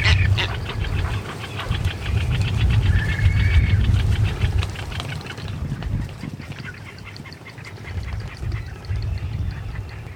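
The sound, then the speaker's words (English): A local boatman's boat engine drones steadily and low throughout, fairly loud, on a trip out to the Barbuda Frigate Bird Sanctuary at the height of mating season, while a flock of seabirds, mostly frigate birds, calls and squawks overhead. No one speaks. “In fact, we start the episode with a trip out to the sanctuary with local boatman”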